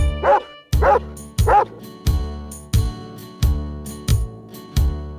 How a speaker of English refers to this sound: The dog on the farm goes woof, woof, woof. Woof, woof, woof, woof, woof, woof. The dog on the farm goes woof, woof, woof, woof, woof, woof all day.